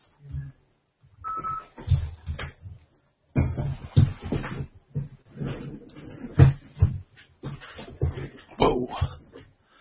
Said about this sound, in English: Whoa. I'm not used to having a rolly chair on hard floor.